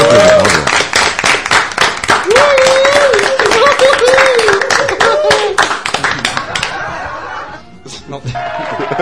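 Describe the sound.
A small crowd applauds with steady, dense clapping, fairly loud, while a voice briefly calls out over it. The clapping thins out and stops near the end. The applause is celebrating passing 1,000 on a Facebook page.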